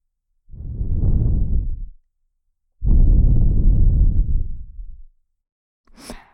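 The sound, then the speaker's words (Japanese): Two long, soft breaths are blown into an ear in slow succession, each a breathy low rushing exhale lasting over a second, followed by a brief fainter puff of air. “息吹きかけてるだけなんだけど。”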